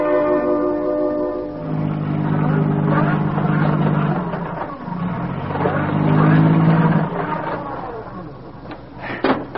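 A car stuck in a ditch: its engine revs hard and steadily, its droning pitch climbing and sagging for several seconds as the wheels spin without grip, ending in a few sharp knocks.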